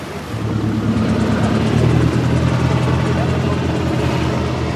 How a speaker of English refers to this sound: We are now approaching the village of Isle. A helicopter is hovering in the sky. Nothing is left to chance here. The security is very tight.